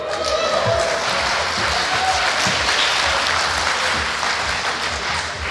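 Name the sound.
audience clapping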